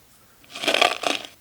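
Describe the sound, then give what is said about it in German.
Two gritty crunches in quick succession as someone steps on coffee beans, each a short burst of crackling texture with no voices present. “Tritt auf die Kaffeebohnen.”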